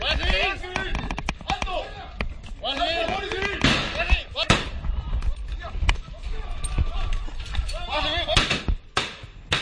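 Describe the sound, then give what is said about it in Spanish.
Sharp shotgun blasts crack out irregularly, some in quick clusters, over a chaotic mix of shouting voices during a shootout in a Guardia Civil operation in Argamasilla de Calatrava, Ciudad Real, Spain; at the end a guard warns his colleague he has been hit in the leg. The bangs are loud throughout. “Es el sonido de la refriega de disparos que ayer difundió la propia Benemérita y en el que oímos al final como uno de los guardias advierte a su compañero que ha sido alcanzado en una pierna.”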